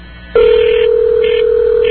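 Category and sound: signal or alarm, telephone line ringing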